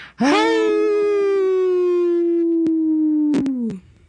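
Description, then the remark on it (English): A human voice imitates a wolf howl on the Native Roots Radio show: one long, sustained, slightly falling wail lasting several seconds, fairly loud, ending with a brief breathy break and a final drop in pitch. “We howl very quietly.”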